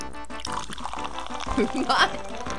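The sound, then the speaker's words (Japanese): Fizzy, milky-white Calpis soda with very fine bubbles is poured into a glass, a steady liquid splash running for a couple of seconds while people talk over it. “このあの乳白色がね、やっぱりカルピスですね。泡がすごく細かいですよ。”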